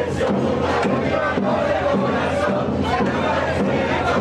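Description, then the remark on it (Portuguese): A dense crowd of football fans in Moca, watching the Spain versus Argentina final in the second half of extra time, roars and chants continuously, a wall of many voices shouting together with rhythmic surges, loud and sustained throughout. “Mas ainda assim, a torcida empurrou.”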